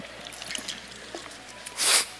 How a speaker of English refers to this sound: let me get a drink of water before I start that.